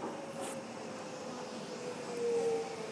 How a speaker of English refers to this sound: Docklands Light Railway for the uninitiated.